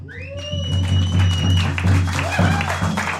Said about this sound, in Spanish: Aquí hay entre el público músicos maravillosos, un aplauso para todos.